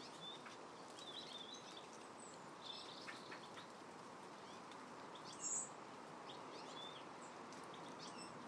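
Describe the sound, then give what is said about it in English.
Four blackbirds in a garden on a fresh morning give scattered short chirps and calls, fairly faint, over a steady hiss of background noise, with one slightly louder call near the end. Nobody speaks. “Four blackbirds in the garden at the moment.”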